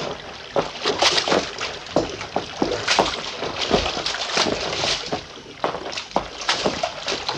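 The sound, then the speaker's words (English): Repeated sloshing splashes of footsteps wading through shallow water over rocks along a creek in a ravine, steady, each step churning the water in an uneven rhythm with no voices. “Water's getting a little deeper along here.”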